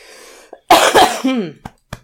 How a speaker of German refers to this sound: Der Husten, das tut mir wirklich leid.